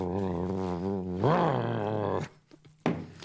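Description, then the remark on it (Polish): A man's voice mimics a car engine while pretending to drive. A long, buzzy, wavering hum rises in pitch midway, then cuts off, followed by a couple of short breathy noises. “Ja będę udawał, że prowadzę. Ja będę udawał ryksilnika.”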